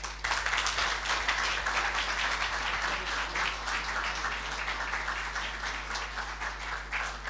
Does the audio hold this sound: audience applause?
yes